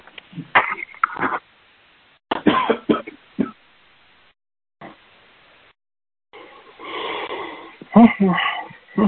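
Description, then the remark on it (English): A person at a meeting coughs loudly in irregular bursts with throat-clearing hacks, separated by short silences, ending in a longer rough, wheezy stretch of coughing. “Pardon me as I'm coughing.”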